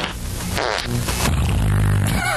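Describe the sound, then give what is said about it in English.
A voice imitates the sound of people farting in a van: a run of loud, buzzy, sputtering raspberries blown one after another for a couple of seconds, with no other talking. “Everybody's got the farts. Everybody's farting, in the van and all that crap.”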